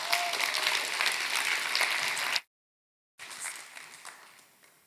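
A church audience applauds steadily for a member about to share her testimony, dense clapping, then cuts off abruptly into brief silence before a quieter, fading round of clapping resumes.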